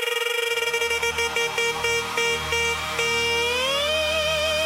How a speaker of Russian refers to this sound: Тебе звонят, посмотри!